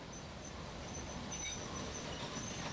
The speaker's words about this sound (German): Ach, da fährt gerade der Ostexpress ein.